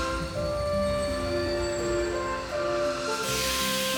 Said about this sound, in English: Late that night, I did hear sounds, though not of ringing bells. From outside came the sounds of hissing steam and squeaking metal.